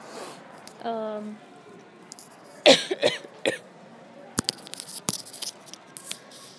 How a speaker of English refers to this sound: Forgive my coughing, you guys. I'm not feeling good. No, it's just allergies.